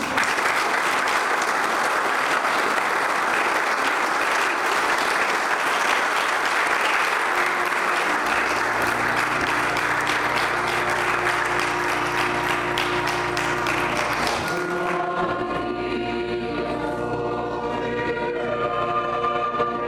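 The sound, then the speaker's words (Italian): Steady audience applause at a parish celebration with the Bishop of Trieste, Enrico Trevisi, broadcast on Radio Nuova Trieste, a dense crackle of many hands clapping for about fifteen seconds, with sustained music rising beneath it and taking over as the clapping ends. “Un altro applauso.”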